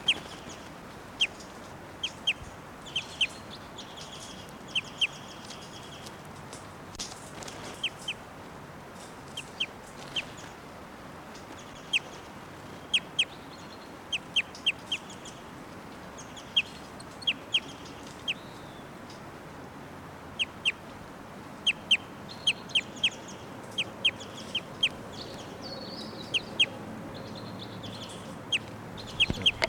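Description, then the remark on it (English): A caged female bird, number 687, gives repeated flight calls: short, sharp, high-pitched notes scattered at irregular intervals over a steady low background hiss, with no one talking. “And 687's giving some flight calls.”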